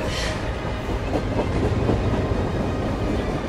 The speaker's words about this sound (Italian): Poi passa un tram, si attacca al tram e se ne va.